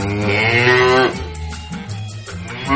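A cow lets out one loud moo, a long, steady low call that breaks into a rougher, breathier tail before fading, with no voices around it.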